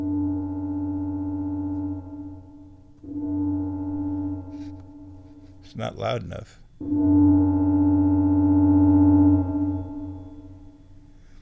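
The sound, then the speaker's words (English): A sustained, pure tone from a cheap bamboo flute, played through a microphone into an echo delay effect, holds steady in long phrases, with a brief pause broken by a short spoken remark, then the smooth tone returns, full and ringing. “Yeah, and that makes your flute sound really amazing and echoey, and people freak out.”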